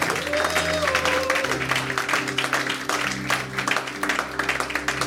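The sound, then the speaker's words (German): An audience applauds for those who prayed along for the first time, dense overlapping claps continuing for several seconds over sustained, soft keyboard chords in the background. “Also gib bei jedem einen Applaus, der gebetet hat, der mitgebetet hat das erste Mal.”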